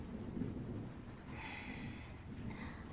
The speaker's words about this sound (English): And I can hear that it's starting to rain now.